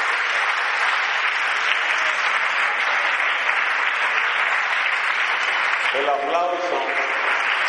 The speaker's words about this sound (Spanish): El aplauso que voy a pedir es para mi amigo